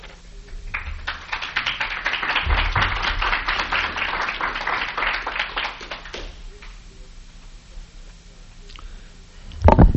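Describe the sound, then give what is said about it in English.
An audience applauds as a speaker is announced to present a paper, dense overlapping claps building quickly and sustaining for several seconds before thinning out and fading. “You ought not to applaud until I'm through.”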